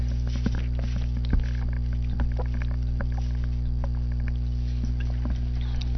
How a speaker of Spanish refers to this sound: Yo creo que este sip de agua quedó hasta grabado. Perdón que quede en la grabación, pero ni modo.